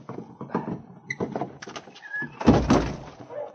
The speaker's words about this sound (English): The door was built of thick planks. But finally, the sergeant chopped a hole through which he could put his arm. "That does it. I'll reach through and unbar the door from the outside."